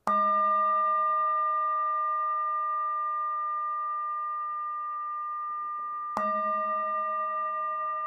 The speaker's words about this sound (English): receiving the sound of the bell, just noticing what arises.